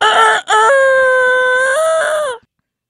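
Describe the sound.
The producer of the Ben Maller Show on Fox Sports Radio imitates a rooster crowing with his voice: a short clipped note, then a long, loud, strained call that steps up in pitch and holds before cutting off abruptly.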